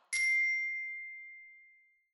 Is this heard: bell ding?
yes